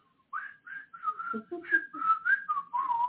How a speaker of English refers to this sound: Okay, she would whistle, but nonetheless.